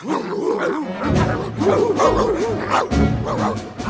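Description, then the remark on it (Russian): Several dogs bark and yap in a rapid, overlapping flurry, loud and continuous for a few seconds with short howling, whining tones mixed in. “Собаки лаяли, солдаты корчили свирепые рожи.”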